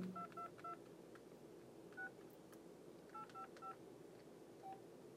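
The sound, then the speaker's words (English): A phone number being dialed on a borrowed phone: about eight touch-tone keypad beeps in quick clusters separated by short pauses, clear over a faint background hiss, with no talking. “But first, hand me your phone. I need to make a call.”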